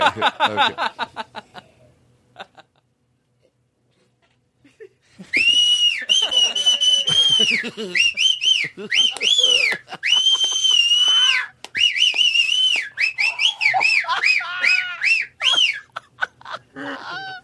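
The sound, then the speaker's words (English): A loud, shrill human whistle blasts in long sustained and warbling bursts, piercing, after a few seconds of brief talk and a short silence. “Hey, that whistle's too loud.”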